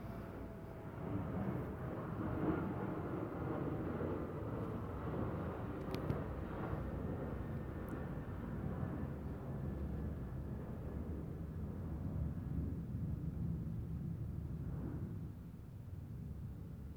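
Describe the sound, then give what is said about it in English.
A low, steady roar of a propeller or jet airplane passing overhead, sustained and fairly loud for about fifteen seconds before easing off slightly at the end, with no talking. “I'm going to wait for this plane to go by.”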